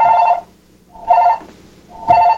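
A telephone rings in three short, bright bursts at an even pace, loud and close, with brief pauses between rings and no voices.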